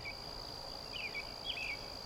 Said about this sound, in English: But it's worth mentioning the amazing diversity of sound on our planet. The sandy deserts. Lush forests.